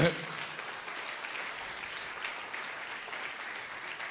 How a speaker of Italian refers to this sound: Questo va tutto alla gloria del Signore. Potete fare un applauso a Lui.